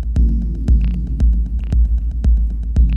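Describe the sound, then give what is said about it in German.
A steady, loud low hum from a vinyl record played for a dub mix set runs throughout, broken by sharp crackling clicks that pop up about twice a second in a near-regular rhythm, with faint hiss between them. “Man hört das Knistern und das Brummen.”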